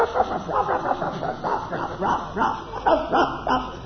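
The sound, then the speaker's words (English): A voice imitates a little dog's yappy barking, a rapid string of short, high-pitched yips repeated about eight times, fairly loud. “There was a little dog this big, just barking.”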